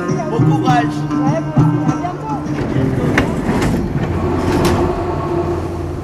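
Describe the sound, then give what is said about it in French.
Echoing metro station ambience in the corridors of the Châtelet metro station in Paris: a rumbling train swells into a steady, noisy roar with metallic hiss, while faint tonal sounds and indistinct voices drift through the first few seconds. “que tous ces souvenirs reviennent à ma mémoire quand je me retrouve dans les couloirs du métro Châtelet-Léal et que j'entends ce morceau.”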